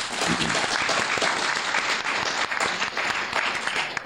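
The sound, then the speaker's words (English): A crowd applauds steadily, a dense wash of many hands clapping at once that stays loud and even throughout, with no voices standing out. “Huge round of applause.”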